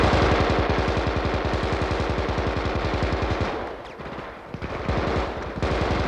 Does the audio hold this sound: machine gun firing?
yes